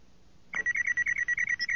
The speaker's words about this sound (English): The comlink beeped from Han's shirt pocket.